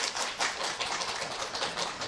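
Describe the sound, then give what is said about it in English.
An audience clapping their hands to vote that the analyst group is relationship-oriented: a dense, steady patter of many overlapping claps at a moderate level, sustained throughout without any voices. “If you think the analyst group is relationship-oriented, clap your hands.”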